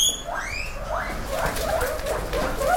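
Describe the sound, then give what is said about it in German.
Four guinea pigs in a barn scurry out of their hutches with a run of high, rising squeaks and chirps, some shrill whistles early on, over a soft rustling background. No one speaks. “In einer Scheune huschen vier Meerschweinchen aus ihren Häuschen hervor.”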